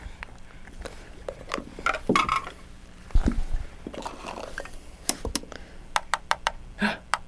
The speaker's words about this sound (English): Like to bang all your toys.